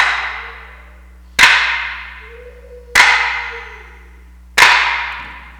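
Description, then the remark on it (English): Kitchen cupboard doors in a house bang shut again and again: three sharp, loud slams about a second and a half apart, each with a ringing decay, and a faint creak of a door opening between them. “What that was is the cupboards were opening and being slammed shut over and over again.”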